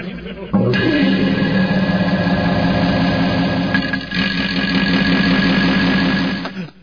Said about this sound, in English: Well, that's way too much reverb. All right, let me try the farts with reverb. This is CD number one.